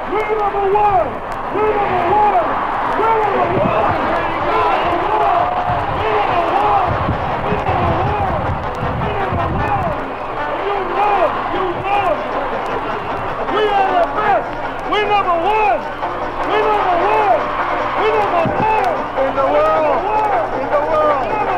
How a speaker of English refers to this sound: And so it was. The crowds cheered and the bands played